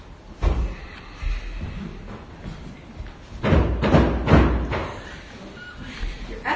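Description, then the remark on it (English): A widow pounds heavily with her fists on a judge's door: a couple of isolated thuds, then a burst of several loud blows in quick succession before things fall quiet again. “Excellency, I will pound on that door till you help me.”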